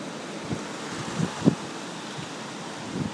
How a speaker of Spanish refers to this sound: Aquí la ventana que abro, el viento viene de lado, por tanto no viene de frente y se puede oír bien el ruido que provoca.